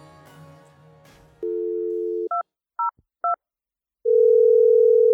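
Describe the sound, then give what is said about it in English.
A steady tone, then three short two-pitch keypad beeps in quick succession as a telephone call is dialed, followed by a long, loud continuous ring or line tone. A faint murmur of background sound comes before it. “we had to urgently call you on the phone because President Trump has canceled this much-anticipated meeting, the summit with Kim Jong-un.”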